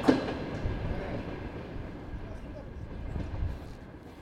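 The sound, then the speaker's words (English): A train arriving in Ukraine in 2014 rolls along the rails with a steady, low rumble and rattle, swelling slightly near the end, while faint indistinct voices murmur underneath. “was one of the ones arriving by train in 2014.”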